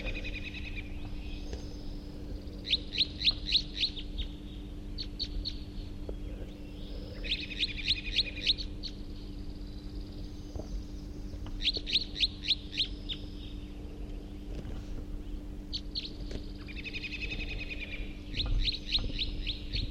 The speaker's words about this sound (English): Here comes one of the wild birds. Here comes another one. Two wild birds here now. They were just chittering in flight. And they're perched in the approach perch. It looks like a male-female pair.